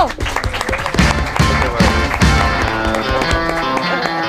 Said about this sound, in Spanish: Ahí llega, creo que llega ahí nuestro invitado. Ay, dale, fuerte aplauso para el invitado. ¡Bravo!